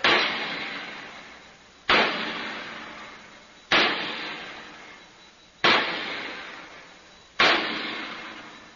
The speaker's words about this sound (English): The bolts, the wing bolts, they hold the door shut. They have to be tightened by hammering with the sledge. Cover your ears, sir.